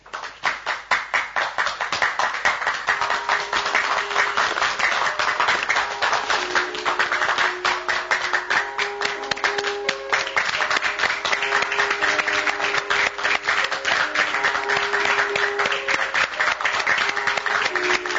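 A theater audience gives the final applause at the end of a play, a slow, dense, steady wash of clapping that holds at an even loudness for the whole stretch, with faint sustained tones underneath and no voices.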